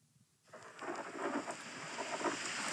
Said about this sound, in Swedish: Regn.